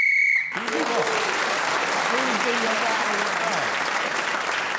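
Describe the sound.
A short, shrill game whistle blast sounds while a player is still speaking, then loud sustained applause and crowd noise take over, with voices talking underneath.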